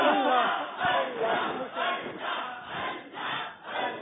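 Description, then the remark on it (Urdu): The Madinat-ul-Auliya Multan quiz team cheers and shouts loudly and continuously after winning a close quiz contest at the last moment, voices overlapping in excited waves that swell and dip in rhythm for several seconds. “بہت آگے پیچھے چلتا رہا یہ مقابلہ اور اب مدینۃ الاولیاء ملتان والے آخری وقت میں جا کر ان سے خوشی بھی نہیں سنبھالی جا رہی ہے.”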